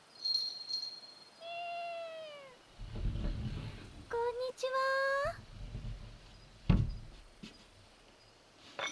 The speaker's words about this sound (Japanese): お待たせいたしました、お客様。お初にお目にかかります。本日、おもてなしを担当します、シンガプーラ猫にございます。